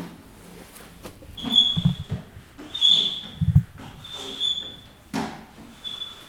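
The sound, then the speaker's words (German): A windshield wiper squeaks loudly in a steady back-and-forth rhythm, each high-pitched screech paired with a dull thump as the blade sweeps across the glass, about four passes in all. “Frau Müller schaltete den Scheibenwischer an.”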